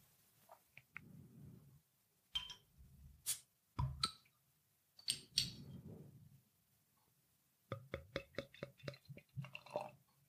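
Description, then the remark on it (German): A bottle of Smoky George, a 7.0% smoked beer (Rauchbier) from Rittmeier of Hallandorf, is opened: several sharp clicks and short bursts of hiss from the cap, a quiet pause, then a quick run of rhythmic ticking and gurgling sounds. No one speaks. “Ja, dann mache ich die Flasche doch mal auf.”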